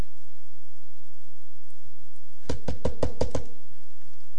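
A quick burst of about six sharp, loud knocks on a wooden door, rapping in an even rhythm before stopping, with only faint hiss around it.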